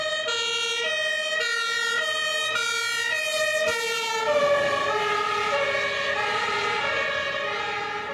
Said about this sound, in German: Ein paar Minuten später sitze ich dann mit meinen Kameraden im Löschfahrzeug und fahre mit Blaulicht und Martinshorn zum Einsatzort.